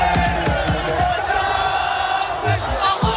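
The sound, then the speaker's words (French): A large crowd of more than 2,000 rugby fans, watching the match on a giant screen at the Stade de Gerland, roars and chants together, a dense, loud, continuous wall of voices with rhythmic shouts rising over the steady din. “plus de 2000 fans ont suivi la rencontre sur écran géant au stade de Gerland”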